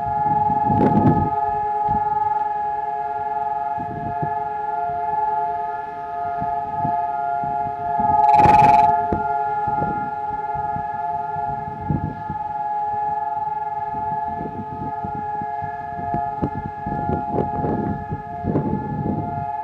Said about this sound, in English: at exactly 10 o'clock, something incredible is going to happen. All over the whole country of Israel, sirens sound, and for exactly 2 minutes, everything stops.